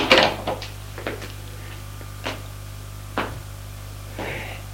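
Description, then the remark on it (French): A bedroom door bangs shut, followed by a short series of sharp clicks and rattles as a key turns in the lock, over a low steady hum with no voices. “Lorsque la fermière sort de la chambre de Claire, elle ferme bien la porte à clé.”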